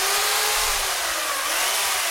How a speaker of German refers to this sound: Kunst ist Knochenarbeit und gefährlich. Mit der Kettensäge schneidet die Bildhauerin einen Lindenbaum in voller Montur.